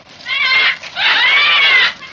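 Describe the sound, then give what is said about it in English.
A man imitates a bird call with his voice: two loud, wavering high calls, a short one followed after a brief pause by a longer warbling one that rises and falls. “Never could do that call properly.”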